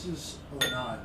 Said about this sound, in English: So Brian's pouring us something here. Looks like a little Gavi.